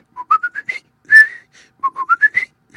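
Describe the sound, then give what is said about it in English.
A person whistles a birdlike tune: a quick run of rising chirpy notes, one longer sliding note, then the rising run repeats, clear with no talking. “In between mouthfuls he would whistle just a part of his song.”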